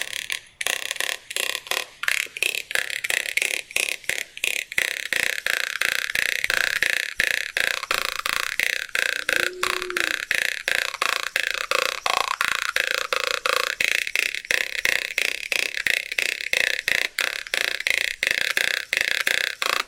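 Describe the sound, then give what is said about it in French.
A jaw harp from Vanuatu plays a fast, steady stream of buzzy plucked twangs, its bright overtones shifting up and down like a twanging voice, loud and continuous with no talking. “Un choix très rebondissant, une guimbarde des îles Vanuatu, où on n'entend quasi plus que le rebond.”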